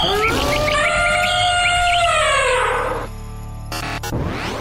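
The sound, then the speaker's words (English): A hawk gives a single long, harsh scream that starts high and slowly slides downward, loud, followed by a short burst of rushing noise before fading out. “Let's hear it for the hawk.”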